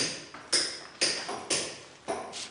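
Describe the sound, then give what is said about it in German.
A stone is knocked on four or five times at a steady pace to test whether it is sound; each sharp knock rings with a bright, hollow tone that fades quickly, unlike the deep, full tone of healthy stone. Clear, with no talking. “Und wenn man dann drauf klopft und wird ganz hell, also kannst du drüben mal zeigen, dann hört sich das auch anders an.”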